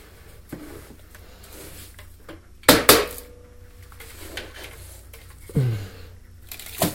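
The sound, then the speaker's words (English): Gritty scraping and rattling of cat litter being scooped from a cat's litter box, with a couple of sharp plastic clunks midway and near the end, moderately loud with no talking. “Gosh, I'm scooping the poop.”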